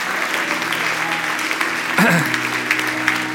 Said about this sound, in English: Now shout hallelujah and give God a clap offering. Amen.